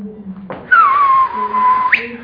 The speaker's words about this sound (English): Sure. I'm getting excited. Sorry for whistling.